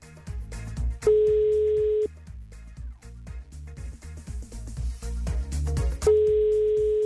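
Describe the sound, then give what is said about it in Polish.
A telephone ringing tone from an outgoing call by Radio Plus to a prize contest participant, two steady one-second beeps about five seconds apart, heard over rhythmic background music with no one speaking. “Pora zadzwonić do tej jednej wyjątkowej osoby. Oto w takim razie z niecierpliwością czekam na to, co dziać się będzie. Jest sygnał.”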